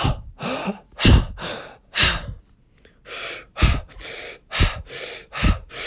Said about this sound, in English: if you don't know what Wim Hof breathing is, it's basically you inhale and then a shallow exhale.